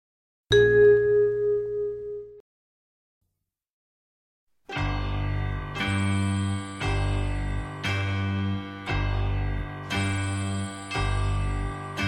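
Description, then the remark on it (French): A single bell rings and fades, then after a pause a run of bright, ringing chimes strikes in a steady rhythm about once a second, loud with no voices. “À chaque son de cloche, une feuille Dieu s'envole, un arbre tend ses bras tordus vers le soleil.”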